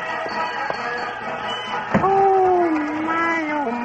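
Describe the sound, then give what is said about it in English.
A steady murmur of a street crowd gathered for a ribbon-cutting opening a street, many overlapping voices blending together, broken by a single sharp bang partway through, after which one voice carries more clearly above the hubbub. “Look at those crowds, those beautiful people.”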